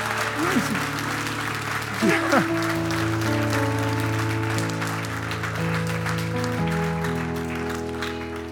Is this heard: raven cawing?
no